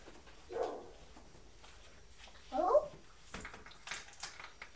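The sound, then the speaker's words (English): A young child's voice imitates a dog barking with two short, separate woof-like yelps, followed by faint household clatter and noise. “You're copying the dog barking.”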